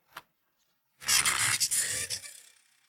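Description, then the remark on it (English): A crane truck at a scrapyard extends its arm to pick up a green cube: a single short click, then a loud, gritty mechanical scraping whir with a low motor hum lasting about a second and a half before fading out. “The crane truck is pushing out its arm.”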